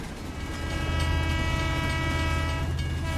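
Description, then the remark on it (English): A moving train rumbles steadily with a deep, continuous roar, while a sustained horn-like tone sounds over the noise for the whole stretch. No voices are heard. “No, we're on the train. The train's going.”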